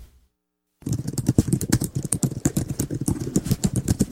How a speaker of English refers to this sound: We all know that sound, the click-clack of a keyboard. Something so commonly heard, it takes no thought at all to figure out what we are listening to.